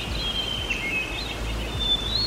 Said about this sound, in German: Vogelzwitscher. Das gefällt anscheinend dem nordamerikanischen Eichhörnchen. Es wurde gemessen, dass sich dieses kleine Hörnchen da bei diesem Vogelgezwitscher entspannt.